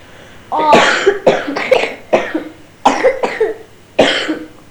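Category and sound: human body sound, coughing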